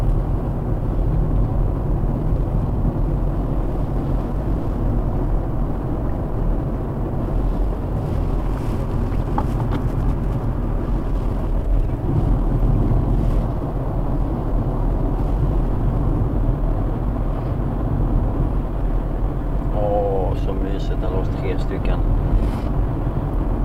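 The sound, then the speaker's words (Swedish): A tractor engine runs steadily a little way behind the speaker, in large open fields surrounded by forest: a continuous deep rumble that fills the whole recording, with some wind buffeting the microphone and a brief higher chirp near the end. “Traktorn en liten bit bakom mig.”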